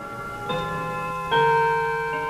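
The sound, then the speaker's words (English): Two resonant chimes from a 65-year-old clock ring out about a second apart, the second slightly louder, their tones sustaining and overlapping, in the modest home of former Milwaukee Mayor Frank Zeidler, with no voices. “Across town, the chimes of a 65-year-old clock sound in the modest home of former Milwaukee Mayor Frank Zeidler.”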